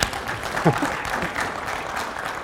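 A crowd claps steadily in a dense, even wash of applause that holds at a moderate level for the whole stretch, with a brief voice cutting through early on.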